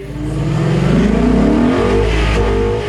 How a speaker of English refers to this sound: he would always call us when he's a little bit from the house and be like, can you hear my exhaust? Was it like, I've arrived? Telling everybody, the whole neighborhood.